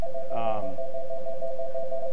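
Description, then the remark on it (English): A telephone rings with a steady electronic tone that holds for the full two seconds, at moderate volume, with a short harmonic burst near the start. “That might be them on the phone, I don't know.”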